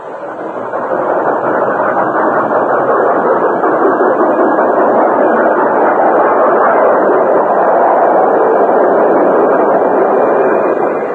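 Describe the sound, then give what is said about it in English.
A train arriving and stopping at a railroad station rumbles loudly and steadily, a dense continuous roar of wheels and machinery that holds for several seconds with no voices over it. “As the train stopped, the guard unlocked the big side door and slid it open.”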